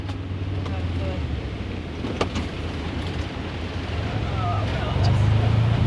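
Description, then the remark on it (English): The engine of a side-by-side utility vehicle drones steadily with a low rumble as it heads up a hill in very windy conditions, buffeted by heavy wind noise that swells louder near the end; brief clicks and rattles punctuate the ride. “I jump into a side-by-side”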